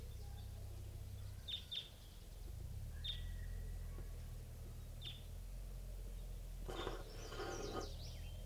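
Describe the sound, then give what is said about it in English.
Short, sharp call notes of a wild crossbill flying in, recorded at 7:11 a.m., doubled at first, then single chips spaced a second or two apart, sound faintly over a steady low rumble, ending in a brief burst of buzzy chatter. “And I think I hear a wild crossbill coming in.”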